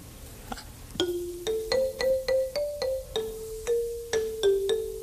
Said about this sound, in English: Well, this looks something like a xylophone. It's actually a marimba phone. Marimba phone? Yeah, very much like a xylophone.